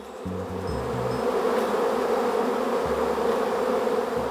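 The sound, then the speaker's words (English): A dense, steady buzzing of many wasps (Vespula flaviceps) in a rural mountain village, Kushihara, in central Japan, a continuous droning hum with low humming tones wavering beneath it, no voices present. “I'm talking about Vespula flaviceps, a species of flying insect known in central Japan for its exquisite deliciousness.”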